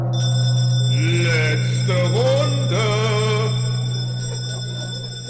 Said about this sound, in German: mit so einem ganz schweren Eisenhammer einmal gegen meine Glocken gehauen. Jetzt spielen wir ab, wie sich das anhört.